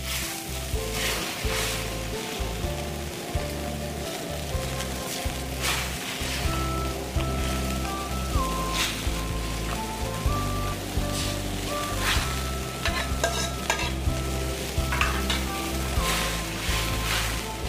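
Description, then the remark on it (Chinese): Steady, crackling sizzle of soy sauce poured along the hot edge of a pot of water and pork trotters as the water bubbles and steams, loud and continuous with sharper pops, over light background music and no talking. “来，我们现在加热，锅缘那些水在冒泡、在冒烟的时候，其实这个时候我们就可以把酱油，好，沿着锅边这样稍微给它放进来。”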